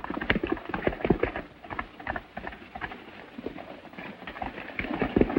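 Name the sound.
horse hooves clip-clopping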